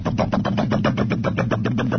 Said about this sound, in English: It's never idling. There is just degrees of anger in a real diesel when it's going. That's one of the things that often frightens people about diesel engines is that the diesel isn't a docile engine. It really isn't.